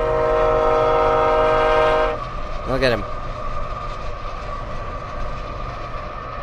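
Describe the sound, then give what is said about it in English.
A Burlington Northern train's loud air horn blares for about two seconds, then gives way to a steady rumble of rail cars rolling past, with a brief voice speaking over it. “That's a Burlington Northern train, just so people listen to that.”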